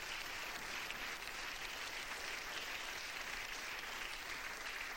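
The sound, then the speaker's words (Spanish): A crowd at a religious sermon claps for God steadily and continuously for several seconds, a dense, even wash of many hands applauding together with no voices standing out. “Dele palmas al Dios de la gloria.”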